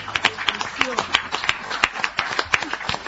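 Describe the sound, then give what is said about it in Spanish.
An audience claps in a loose, uneven burst of sharp hand claps lasting a few seconds, with some voices murmuring underneath. “Empezamos aplaudiendo, hoy vamos a aplaudir mucho, ¿no?”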